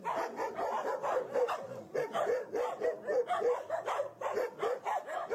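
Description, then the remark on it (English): Dogs at a dog kennel bark over and over in a dense, steady stream of sharp, mid-pitched barks that overlap and keep going for the whole stretch, with a few higher yips mixed in and no talking. “What's that dog's name”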